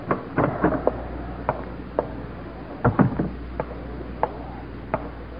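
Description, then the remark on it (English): Sharp footsteps of a guard striding out the door across a hard floor at an uneven pace, with a heavier thudding cluster midway like a door being shut, over a steady low hum and no voices. “As the last guard salutes and strides out the door”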